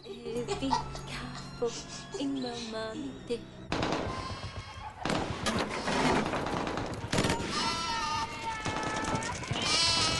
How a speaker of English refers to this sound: They leave the building just as a flock of sheep trot past.